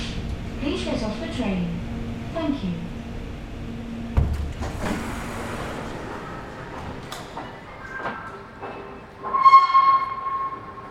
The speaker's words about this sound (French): Voilà, donc je sors du métro, oui, la porte qui s'ouvre.